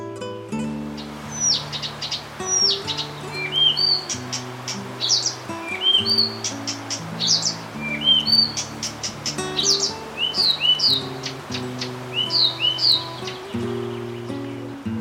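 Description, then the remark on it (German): A Blyth's reed warbler sings a lively, continuous stream of varied chirps, whistles and repeated phrases, clear, over a low, steady tonal backdrop. “Das war der Buschrohrsänger.”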